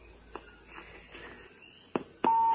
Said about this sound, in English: I have a strange beep. So do I. Yeah, somebody's doing something weird.